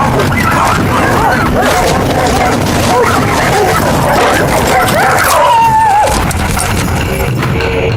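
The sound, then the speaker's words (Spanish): Several dogs bark, yip and whimper in a dense, noisy jumble, with a drawn-out whining cry rising near the end; the sounds are loud, with murmuring voices mixed in. “Perros dominan la noche y al final de cada comida se conforman con un bocadillo.”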